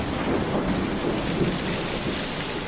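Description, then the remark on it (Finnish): A thunderstorm grows stronger, with howling wind and flashing lightning: dense hissing rain over a continuous low rumble of thunder that swells slightly now and then. The sound is loud and unbroken throughout, and no one speaks. “Myrsky yltyy yltymistä. Tuuli vinkuu ja salamat alkavat leimahtelemaan.”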